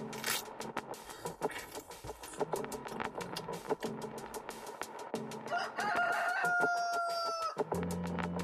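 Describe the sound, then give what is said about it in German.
A neighbour's rooster lets out one loud, drawn-out crow in pitch darkness, following a stretch of rustling and scraping noises with some faint clucking, and no one speaking. “Obwohl es stockdunkel ist, kräht er mit voller Inbrunst.”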